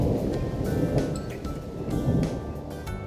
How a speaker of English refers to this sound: There are thunderstorms today. I don't like thunder and lightning. It's scary.